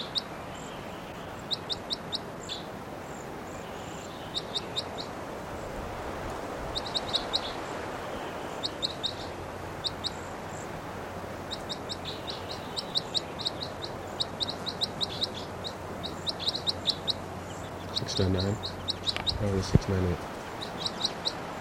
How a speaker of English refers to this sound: 698, the loudest. Both birds are calling, pointing at 698.